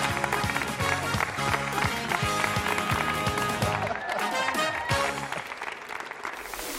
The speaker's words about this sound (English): Great job. 4 out of 5. Clap it up for her.